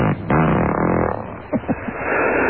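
A recorded fart, loud, starting as a long raspy buzz and ending in a couple of short sputtering bursts, with no talking over it, played in a game of guessing who farted.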